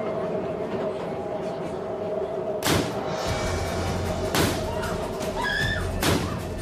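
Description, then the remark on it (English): Three sharp, loud gunshots from a man shooting passengers ring out about a second and a half apart over the steady mechanical rumble and hum of a moving train, heading from Jamaica Station towards Mineola past New Hyde Park, with faint high squeals near the end. “As soon as the door closes, I hear shooting.”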